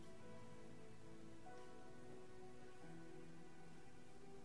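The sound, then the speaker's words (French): Steady rain hisses continuously and softly during the rainy season, with faint sustained tones drifting underneath; no one speaks. “Aujourd'hui, nous sommes en saison de pluie et il pleut.”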